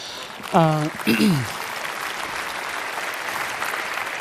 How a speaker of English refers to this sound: Yeah, that's a round of applause, right?